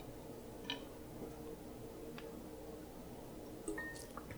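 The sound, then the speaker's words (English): Someone takes a swig of water: a few soft, wet clicks and gulps spaced out over a few seconds, quiet, with no talking. “No, let me take a swig of water.”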